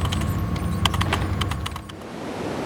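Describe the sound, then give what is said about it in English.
A burst of quick, irregular keyboard clicks tapping away over a steady low rumble, then the typing stops and only the background hum remains. “Maria began working the keyboard again.”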